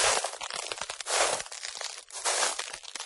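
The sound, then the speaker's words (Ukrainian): Ice on a frozen river cracks and crackles in a dense, irregular stream of sharp snaps, swelling twice into louder crunching bursts, with no voices present. “Деякі чехи, наприклад, заздрять, що неподалік від них існує справжня зима, і що десь на замерзлій річці можна почути, бодай, такі звуки.”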